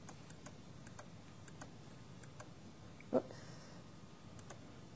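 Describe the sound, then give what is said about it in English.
A sharp mouse click stands out midway, with faint, light clicks scattered around it against a quiet background hum, as someone clicks back to the previous year's record in a grant folder on a computer. No one speaks. “So just click on the year before.”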